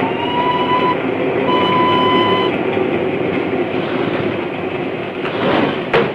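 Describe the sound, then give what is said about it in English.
A train running through a tunnel rumbles along at a steady, loud roar, with a thin high whine sounding twice and a sharp knock near the end. “I had no idea we were going into a tunnel.”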